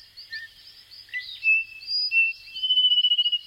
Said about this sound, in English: In Les Pitons du Corbeil, the volcanic mountains in northern Martinique, thousands of small frogs emerge from the lush rainforest as night falls.